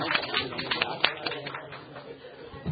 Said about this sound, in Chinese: 好，鼓掌。